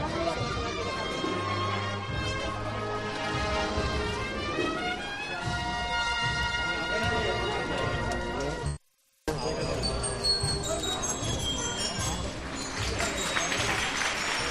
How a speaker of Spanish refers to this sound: Y una pétala es la que cae ahora mismo en estos momentos a este paso de misterio de la Hermandad de la Redención, que se suceden los aplausos. Hasta claveles completos le tiran al Cristo Redentor.